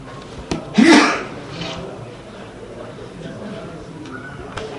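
A single loud sneeze bursts out near the start with a short breathy rush, then fades into quiet room noise with a few faint clicks.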